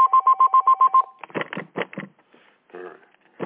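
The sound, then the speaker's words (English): A telephone rings with a quick warbling trill of about seven rapid pulses, followed by several loud clattering, rustling bursts. “All the phones are ringing.”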